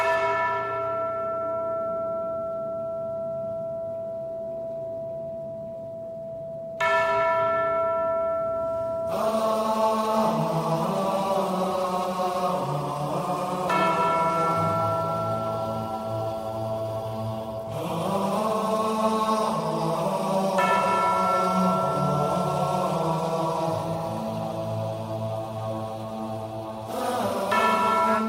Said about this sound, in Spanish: Sonando las campanas de tu sección.